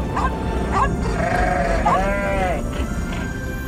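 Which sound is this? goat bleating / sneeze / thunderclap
goat bleating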